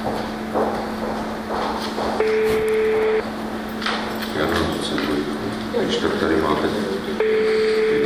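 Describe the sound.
Telephone keypad tones sound twice as a phone number is dialed, each a steady electronic beep lasting about a second, over a constant low hum and a busy background of muffled voices and noise.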